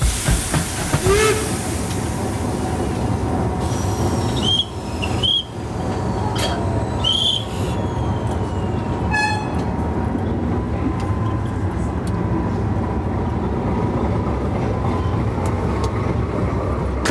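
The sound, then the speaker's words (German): A steam museum train on a heritage railway pulls away from a station at 14:10, its steady hiss and rumbling chuff filling the scene, with a few short whistle-like squeals and clanks rising over the continuous noise. “Unser Museumszug fährt ab.”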